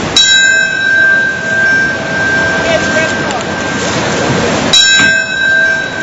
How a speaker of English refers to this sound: Bells tolled to mark the moments when hijacked planes struck the Twin Towers, and when those towers collapsed.